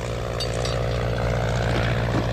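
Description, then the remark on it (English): A propeller airplane drones loudly and steadily right over a house, its engine a deep, throbbing hum with a constant rumble that fills the whole moment. “I think it's a plane. It sounds like it's right over the house.”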